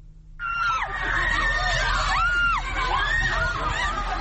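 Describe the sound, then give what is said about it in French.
A crowd of women protesters shouts together in high, strained voices, chanting "Don't take our jobs" against the Taliban ban on women's beauty salons, a dense wall of overlapping cries that rises and falls continuously after a brief quiet start, with a low rumble underneath, as Taliban security forces disperse them with water cannons and shots fired in the air. “Les manifestantes ont scandé « Ne prenez pas nos emplois »”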